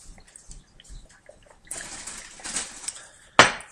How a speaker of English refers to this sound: Just have some water. Just have some water. I think the dryness of the house is getting me. Just drink some water.